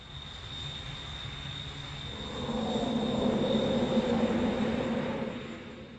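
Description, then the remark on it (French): A jet airplane roars down a long runway, gaining speed to take off, its engine noise swelling louder partway through over a steady high-pitched whine, a continuous rushing rumble with no voices. “Seulement, eux aussi ont des techniques d'envol bien différentes, comme par exemple décoller en prenant de la vitesse sur une longue piste. Ceci est également un procédé utilisé par les êtres humains, avec les avions.”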